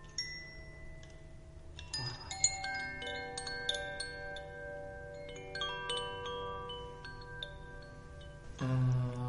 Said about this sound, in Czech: Prosto evo tu je kristal koji pravi zvuk, vidiš? Vidiš? I prosto udaranjem, kontaktom u stvari u ovu skalu, on pravi zvuk. Ovo je vazduh.